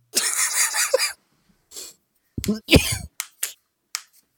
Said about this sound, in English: What? Is that you clapping? Oh, no, that's me, yeah. Cracking my knuckles.